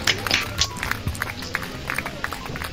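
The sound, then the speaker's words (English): A brief patter of applause for award winners, several hands clapping in quick, uneven bursts at a moderate, steady level, tapering slightly toward the end. “That's a short round of applause to award those great folks.”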